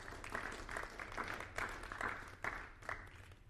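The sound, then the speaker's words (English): An audience claps their hands in a dense, steady burst of applause lasting a few seconds, many overlapping claps with no voices on top, a hand clap given to the Lord. “Why don't we give the Lord a hand clap for that right now.”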